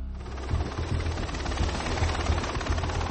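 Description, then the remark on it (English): A steady helicopter drone in flight heading south toward the border, a broad roaring wash over a rapid low rotor thump that pulses continuously throughout, with no voices. “Your guys here in the helicopter, they're working and communicating with those guys down in the boats usually?”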